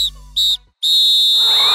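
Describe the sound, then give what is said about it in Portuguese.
A referee's whistle blows three shrill blasts signalling the end of a football match, two short ones followed by a long sustained final blast, loud with no voices. “Apito árbitro, fim de jogo!”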